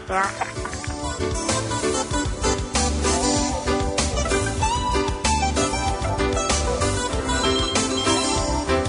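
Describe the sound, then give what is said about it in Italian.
A phone ringtone plays as a loud, full musical tune, steady and continuous for the whole stretch, with busy melodic and rhythmic layers and no pauses. “Hane telefoni mei pune a.”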